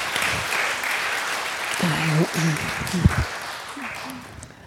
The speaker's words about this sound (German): Ich glaube, wir dürfen dir einen kurzen Applaus.